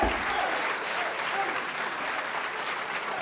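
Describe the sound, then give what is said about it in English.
A church audience claps their hands to bless the Lord's name in sustained, dense applause, a steady crackling wash of many overlapping claps that holds a fairly even loudness throughout. “My God, if you're glad you're in the church, clap your hands into Him and bless your name.”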